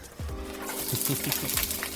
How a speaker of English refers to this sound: Hear that sizzle?